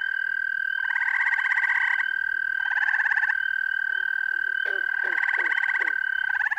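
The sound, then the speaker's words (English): A frog breeding chorus: the long, steady, high trill of an American toad runs unbroken throughout, nearby and loud, while pulsing bursts of croaking calls surge in and fade several times, with a few short gulping notes near the end; gray tree frogs, green frogs and spring peepers call in the chorus. “Quite obvious are the long, melodic trills of an American toad, which periodically sounds off nearby.”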